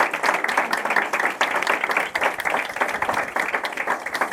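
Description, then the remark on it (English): A crowd applauds steadily, with dense overlapping claps forming a continuous, fairly loud wash of sound that holds for several seconds without voices breaking through. “Please give her a round of applause, everybody.”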